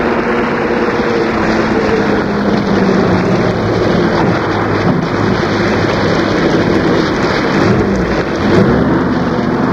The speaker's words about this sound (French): Elle accepta, car le ciel était encore noir de nuages et l'orage ne semblait pas finir.